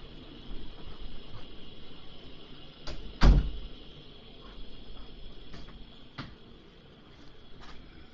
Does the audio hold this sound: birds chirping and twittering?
no